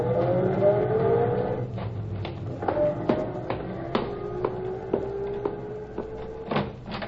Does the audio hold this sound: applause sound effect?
no